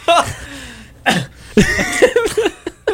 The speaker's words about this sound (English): The fake cough. I mean, it gets rich every single time.